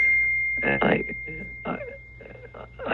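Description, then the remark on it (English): A phone text message alert rings out as a thin, steady high-pitched electronic tone that holds through the whole clip while people talk over it in short bursts. “I'm hearing something. Is that one of our phones? I got a text message.”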